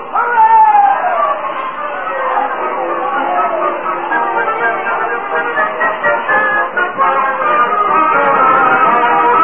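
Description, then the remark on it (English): A dense New Year's Eve crowd in Times Square as 1920 begins, many overlapping voices chattering and calling out in a steady, loud babble, with bursts of excited shouting and laughter rising from the surging mass. “Oh, Times Square, a surging, laughing, eager crowd.”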